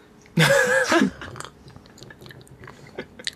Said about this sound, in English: I'm now going to take my first sip of this posset.